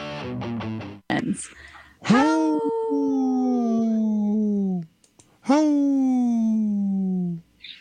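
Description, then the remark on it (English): A dog gives a quick burst of short yips, then two long, drawn-out mournful howls that slowly sink in pitch, loud with a brief pause between them. “Hey, such a sad howl.”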